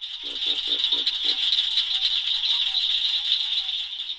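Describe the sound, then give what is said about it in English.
A southern cricket frog calls with a steady stream of sharp, high-pitched clicks, like marbles tapped together, lasting the whole stretch. A few lower knocks sound near the start, and no one speaks. “So now that we know a little bit about what they look like, let's take a listen to their call.”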